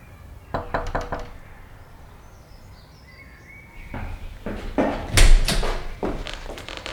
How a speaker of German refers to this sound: Bob trat durch ein modriges, hölzernes Gartentor und klopfte an die Tür.